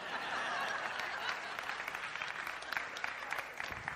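An audience applauds steadily, a dense wash of many hands clapping at once with scattered chuckles mixed in, sustained at an even level for the whole stretch.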